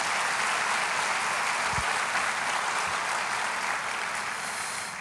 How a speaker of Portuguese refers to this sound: Aplauda mais uma vez o Senhor.